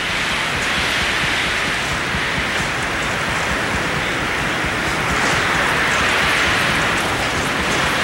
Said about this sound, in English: I just want you to listen and hear. This wind is about 140 mile an hour winds we're experiencing. This is unbelievable.